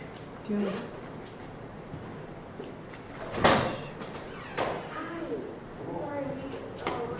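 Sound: door opening and closing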